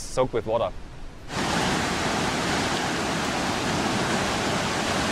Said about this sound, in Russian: Водопад Виктория находится на границе Замбии и Зимбабве на реке Замбези. Его высота 120 метров, ширина 1800 метров. Это одна из главных достопримечательностей Южной Африки, входит в список всемирного наследия ЮНЕСКО.